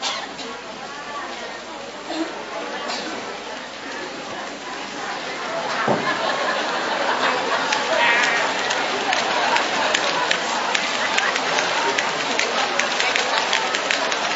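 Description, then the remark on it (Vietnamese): An audience at a sermon, asked by the preacher to make the wind blow, makes breathy whooshing sounds imitating wind, a dense hiss of many voices that swells louder partway through and continues steadily, mixed with scattered murmuring. “Chúng ta thấy gió bắt đầu nó bay này, anh chị em làm cho nó bay coi.”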